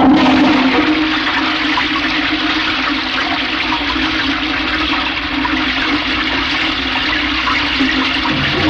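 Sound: toilet flushing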